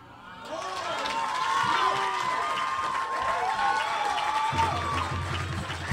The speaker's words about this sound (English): Keep that applause going for the Paul from Salt Lake City.